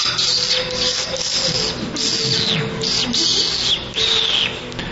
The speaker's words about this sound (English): There were various birds chirping.